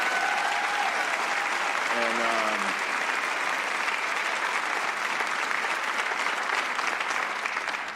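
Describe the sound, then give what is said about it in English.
A large church audience claps for its founding pastor in sustained, dense applause that fills the room evenly, with a brief voice or cheer rising over it early on and the clapping continuing steadily throughout. “And I just think that we should give a round of applause for our founding pastor.”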